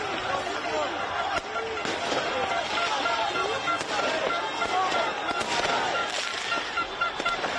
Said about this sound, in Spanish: Desbordada la alegría, petardos, bengalas, evidentemente incidentes. París vive una noche muy larga, la que va a vivir hoy la ciudad parisina.